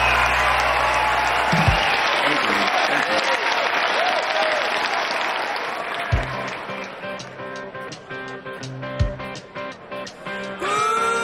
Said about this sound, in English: … cheer and exchange glances.